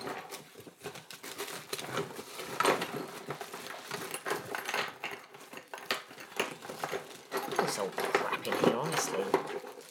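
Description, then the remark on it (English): Continuous rummaging: papers rustle and crinkle while small objects clatter and knock about in a drawer full of documents and things, in busy irregular bursts for the whole stretch. “Now I usually keep it in this drawer here, or one of these drawers, full of documents and things, and it doesn't look like it's in there.”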